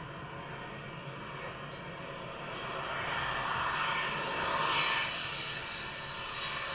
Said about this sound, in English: And it starts already with a little bit annoying sequence of planes.